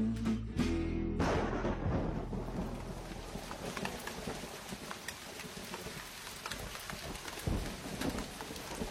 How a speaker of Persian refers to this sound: آسمان غرق در ابرای خاکستری بود. بارون می‌بارید و خیابونا خالی از رهگذر سرد و غمگین به نظر می‌رسیدند.